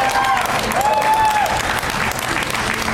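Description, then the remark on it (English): An audience applauds steadily for about three seconds, a dense wash of clapping at an even, loud level, with a short high whistle riding over it early on. “You say her name anywhere in Texas, you get a round of applause.”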